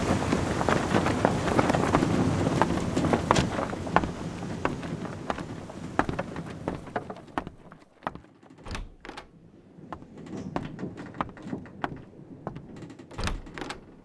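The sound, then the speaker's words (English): Storm sounds aboard a rocking ship in a very big storm: a loud, steady rush of wind for about seven seconds, then a quieter stretch of creaking timbers and sharp cracks and knocks. No one speaks. “The captain said we're going to be in a very big storm soon, but he said not to be afraid.”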